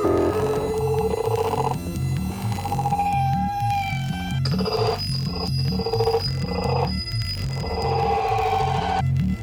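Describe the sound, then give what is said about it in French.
Loud electronic tones washed in heavy reverb, sustained notes smearing and ringing into one another over a steady low pulse, with a high whining tone hanging through the middle. “Il y a un effet reverb là-dedans, quoi.”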